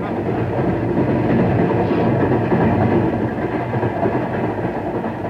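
A passenger train car rolls along the rails with a steady, loud, low rumble and a constant roar, faint rattling mixed in, with no voices.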